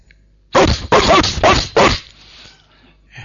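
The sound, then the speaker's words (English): A dog barks loudly, four harsh barks in quick succession, then quiet with faint rustling afterward. “Sometimes the bad dog howls and barks very loud.”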